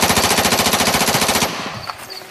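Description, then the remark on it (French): A sustained burst of automatic fire from an infantry assault rifle with a 30-round magazine, a rapid, steady stream of sharp loud shots lasting about a second and a half, then cutting off into a fading rumble and faint ringing. “une arme qui ne s'enraye très peu, voire pas du tout”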